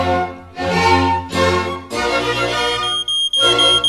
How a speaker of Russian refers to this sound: Как вы думаете, Шерлок, кто это пищит? Никто, а что? Это АПИ. Это же элементарно, Ватсон. У нас пожар.